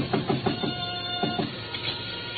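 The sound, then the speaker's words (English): A few sharp knocks rap on a back door in Chinatown in two short bursts, three quick ones and then a couple more after a pause, with a faint steady hum underneath and no voices. “Still in front of me when I knocked again at Shinyuk's back door.”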